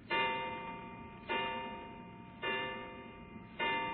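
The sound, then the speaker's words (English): A clock strikes eleven o'clock with resonant, evenly spaced chimes, four heard here, each ringing out and fading before the next. It's clear with no voices. “11 o'clock.”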